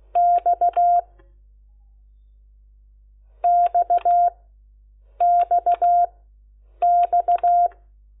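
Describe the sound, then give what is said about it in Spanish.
A steady electronic tone beeps out the Morse code letter X, dash-dot-dot-dash, in four separate bursts, each a quick group of four beeps, with pauses between bursts and no voices. “La X, a ver si sale, suena así.”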